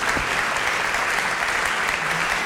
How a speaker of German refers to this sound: Applaus.